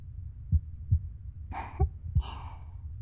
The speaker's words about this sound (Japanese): 生まれたての赤ちゃんって心音を聞かせると泣き止むんだって。 なんで？ なんでだろう。お母さんの心音を聞いて生まれてくるからとか？